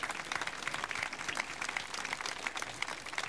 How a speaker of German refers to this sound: Ein herzliches Willkommen. Wer von Ihnen kommt nicht aus Ostfriesland? Schön, dass Sie zu uns gefunden haben. Sie kriegen einen Applaus.